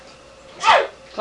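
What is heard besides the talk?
sneeze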